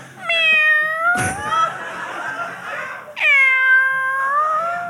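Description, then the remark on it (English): A voice imitates a cat with two long, drawn-out meows, loud, each wavering in pitch, separated by a brief noisy burst and a short pause. “She meows to me.”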